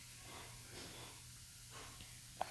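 A few short, soft sniffs through the nose, close by, over a low background hum, with a brief sharp click near the end.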